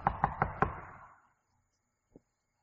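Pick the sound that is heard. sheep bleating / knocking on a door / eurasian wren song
knocking on a door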